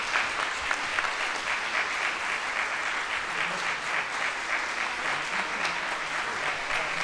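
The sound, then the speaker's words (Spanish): Sustained applause from a large audience at the end of a concert, the final applause of the last Clásica en Vivo programme in the Radio Nacional auditorium, fills the whole stretch, a dense steady patter of many hands clapping at even loudness with no voices standing out. “Bueno, sumamos a Patricia Dadal y a Lucrecia Hansa para la foto final y el aplauso final en este último programa de Clásica en Vivo.”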